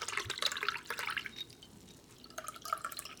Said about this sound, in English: So I just pour it through just a little filter.